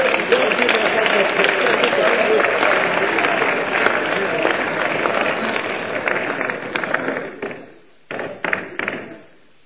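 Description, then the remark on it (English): A church crowd applauds loudly and steadily for about seven seconds, then the clapping thins out into a few scattered claps before fading. “Clap your hands for them.”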